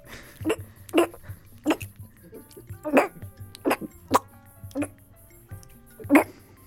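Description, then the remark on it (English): A person imitates a cat coughing up a hairball, with around ten harsh, retching hacks in a quick steady rhythm, moderately loud, with no talking. “Maybe … will start coughing up hairballs or something.”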